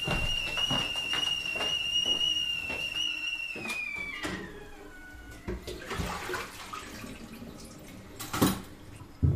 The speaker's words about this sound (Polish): I wyłączę wodę. Niech trochę ostygnie.